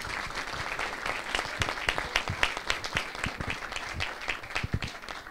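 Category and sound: crowd, applause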